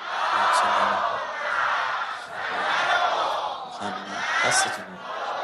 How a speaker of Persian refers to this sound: آره اینا ده اشتادی ها شادی ارواح در اوج فاتحه سوتو کف میزنن.